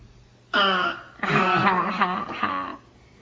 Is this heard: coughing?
yes